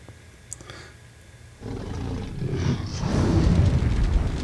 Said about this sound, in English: Let's see, where's my, it's not very loud, is it? I was trying to play a fire-breathing dragon.